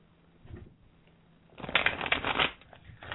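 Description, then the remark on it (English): Tarot cards are shuffled for a reading in a quick, dense burst of crisp riffling and flapping, loudest in the middle and trailing off, after a few faint handling sounds. “Can you hear those cards shuffling?”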